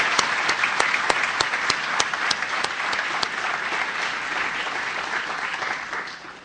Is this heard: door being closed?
no